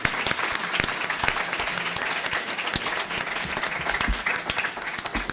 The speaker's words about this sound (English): A round of applause for our panelists.